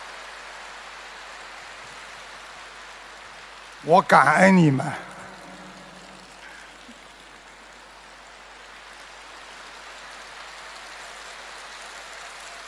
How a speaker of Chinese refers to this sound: 你们要鼓掌，索性就鼓得响一点。